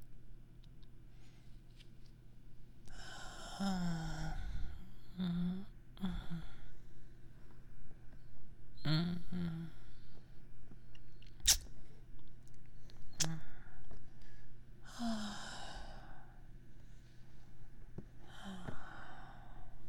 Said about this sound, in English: And just listen to the gentle sound of the water. And my breathing. Enjoy the warmth of the bath.